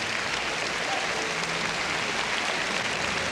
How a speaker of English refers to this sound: There's warm applause from the members of the Chicago Symphony Orchestra, as well as from the Orchestra Hall audience, for Andrzej Panufnik.